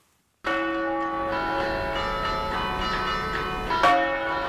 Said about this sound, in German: Die Glocken des Turiner Doms beschallen die Piazza San Giovanni und Teatro Romano.